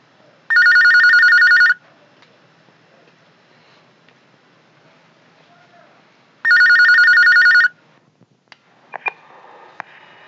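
A telephone rings twice, each loud electronic trill lasting just over a second with a long pause between, followed by a few faint clicks as if the handset is picked up.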